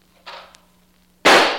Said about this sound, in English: I'd like a shot at one of those clay pigeons. Use my gun